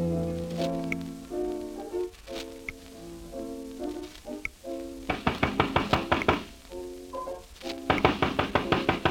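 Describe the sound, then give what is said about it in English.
Loud, rapid pounding knocks on a door in an apartment building, trying to make the man inside hear, come in two steady bursts, each a string of evenly spaced thuds, over tonal music that plays on beneath them. “I'll just keep pounding.”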